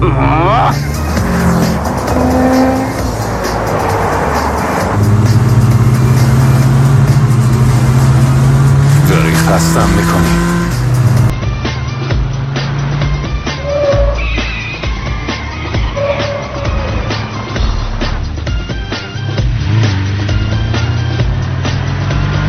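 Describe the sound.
A black car with license plate 0808 roars and revs as it drives fast, with occasional tire squeals and shifting pitch, while people talk over the noise.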